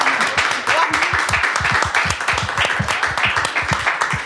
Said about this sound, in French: Si regarde, ça applaudit là-bas.